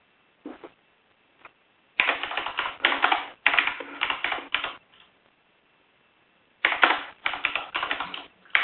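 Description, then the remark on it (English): Rapid keyboard typing comes in steady bursts of clicky keystrokes, pausing between runs and then picking up again, with no voices present, as someone types agenda items into meeting minutes. “I'm still typing on capturing agenda items from the agenda.”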